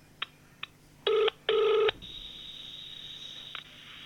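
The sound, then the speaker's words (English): Two short electronic blips, then two longer loud dialing tones, followed by a faint steady call tone and a small click: a Series 3 smartwatch placing a phone call to audio mail, started via Siri by holding the digital crown; no one speaks. “So I'm going to hold in the digital crown to activate Siri. Call audio mail. Calling audio mail.”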